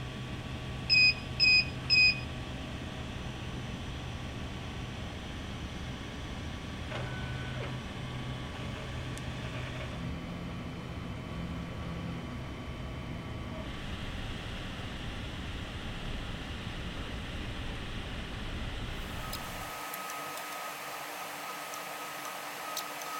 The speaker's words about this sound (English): Hit print. That's going to spool it over to the printer, and in a couple minutes that set of teeth is going to start printing out.